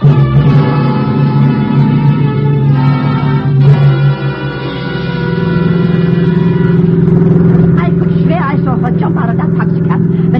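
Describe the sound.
A car engine roars loudly, revving and droning steadily as the vehicle speeds along, with indistinct voices breaking in over it toward the end.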